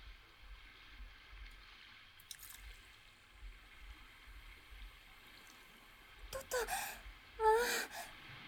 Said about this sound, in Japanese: ビールの継ぎ方って意外と難しいんですよね。泡がグラスの縁から溢れないようにしたいんですけど、練習あるのみですね。